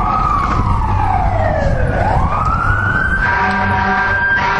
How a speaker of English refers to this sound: So it'll be interesting to see how the mic picks me up, if indeed it does, on my lapel here, with the fire engines going.